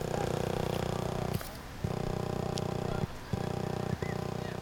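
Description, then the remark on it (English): A steady purring hum from A Solar Symphony, a solar sound sculpture of black stone by artist Harun Mertzer in a garden, low and rich with a fluttering texture, broken by a few brief dips into quieter gaps before resuming. “Sounds a little bit like a purring cat.”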